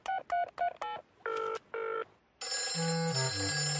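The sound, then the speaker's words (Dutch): A quick run of telephone keypad tones dials a phone number written on a note, followed by two long ringing tones of an outgoing call, then a loud burst of music or noise as someone answers. “Ik heb geen idee, maar er staat een telefoonnummer bij. Zullen we hem opbellen, oma?”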